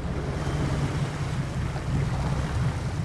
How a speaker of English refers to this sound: Out on the water, we get a vivid demonstration of how closely these Marines, women and men, are being monitored. Data collectors stand on the roofs of the amphibious vehicles floating around us, observing, taking notes.